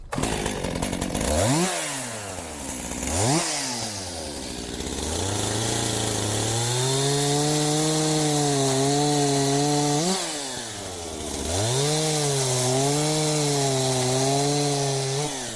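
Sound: chainsaw cutting wood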